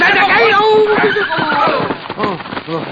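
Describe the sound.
A horse whinnies loudly with a long, wavering neigh, followed by busy, overlapping sounds of movement and hoofbeats as riders race after other horses, with voices talking over them.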